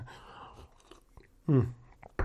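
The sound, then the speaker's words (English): A soft, airy slurp of someone sipping hot coffee, then a short, loud voiced sigh of satisfaction and a sharp click at the end. “I'm going to take a quick drink of my coffee here to wet my whistle.”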